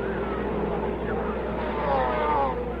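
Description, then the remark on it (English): Race car engines drone steadily and loudly, a dense mechanical roar that swells briefly as cars sweep past on the track in the 45th lap, including A.J. Foyt in car number 9, Mark Donahue in car number 66 and George Snyder in car number 40. “So as we pick up the cars as they come by, A.J.”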